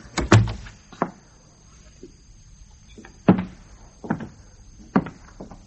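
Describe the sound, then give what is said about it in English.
A door is shut with a heavy thud to keep the cold out, followed by several softer clunks and knocks spaced over the next few seconds, with a faint steady high whine underneath and no talking. “Shut the door, son. Keep the cold out.”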